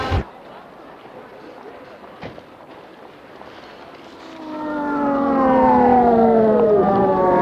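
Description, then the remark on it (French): The siren of a white ambulance arriving and stopping near a Leclerc, its wailing tones sweeping up and down and growing louder, after a stretch of quiet street background. “Est arrivée une ambulance blanche qui s'est arrêtée près de Leclerc, toujours sans connaissance.”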